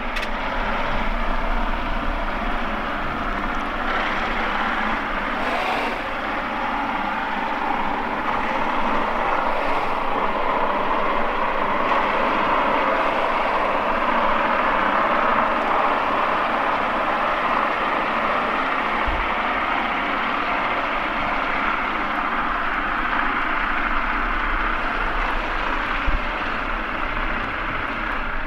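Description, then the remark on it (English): A steady, deep mechanical drone of a huge barge's engine and grinding gears, recorded underwater with a hydrophone in the River Liffey as the barge moves up the Liffey from O'Connell Bridge. A constant grinding hum and faint rumbling gear noise run unbroken throughout, with no voices present. “The first thing I hear is the engine of a huge barge, which is moving from O'Connell Bridge up the Liffey.”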